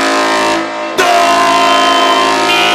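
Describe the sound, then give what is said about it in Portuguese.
A loud, sustained blast of the LTS horn with a rich, buzzy harmonic tone, briefly dipping before resuming at full strength and holding steady to the end, with no talking. “LTS, a corneta do racha.”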